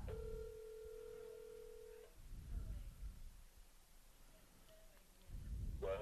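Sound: telephone dialing and ringing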